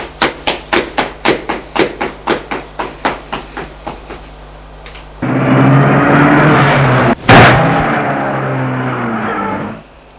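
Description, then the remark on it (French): A quick run of rhythmic thumps gives way to a loud, steady car engine roaring as a car speeds away, broken by one sharp bang before the engine noise cuts off. “La voiture filait.”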